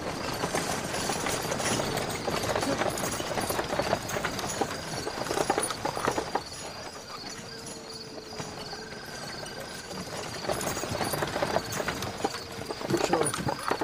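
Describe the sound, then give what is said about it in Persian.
A horse-drawn cart rolls along with steady clip-clop hooves over a rumbling, rattling wheel noise, moderately loud and continuous, with a few brief tonal squeaks from the cart. “سیاوشو از روی گاری پایین میندازن.”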